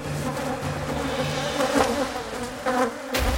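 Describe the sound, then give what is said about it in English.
A dense swarm of honeybees from a disturbed hive, taking to the air to sting, buzzes steadily, a thick droning hum with overlapping wingbeats that swells and surges in brief louder bursts, with no voices. “Thousands of poisonous fighters take to the air with just one purpose: inject their venom as soon as possible.”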